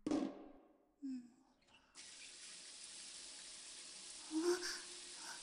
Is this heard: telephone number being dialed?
no